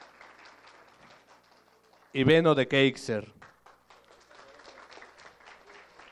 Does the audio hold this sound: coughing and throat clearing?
no